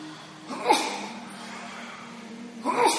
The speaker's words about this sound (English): Bless you.